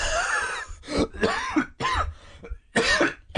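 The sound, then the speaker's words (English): A loud run of harsh throat clearing and coughing, several rough bursts in quick succession with brief pauses between, and no talking. “Not the coughing.”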